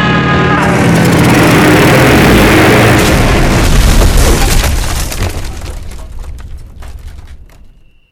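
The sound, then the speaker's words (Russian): A loud, roaring crash of an airplane breaking apart into pieces, with crunching, splintering impacts and scattered bangs, a dense wall of destruction that slowly fades out over several seconds, with no voices. “Рули в сторону суши, на куски самолет. Разлетается тут же.”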